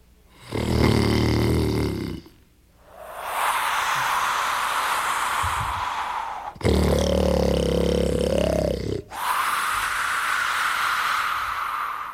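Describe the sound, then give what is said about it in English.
Loud, growling snores of Thunder sleeping inside a long house repeat twice, each a deep rattling intake followed by a long breathy hiss of exhale, in a slow, steady rhythm with no talking. “It was Thunder sleeping inside.”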